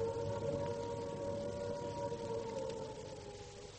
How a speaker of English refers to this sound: Ah, there's that bloody siren. There's going to be an air raid.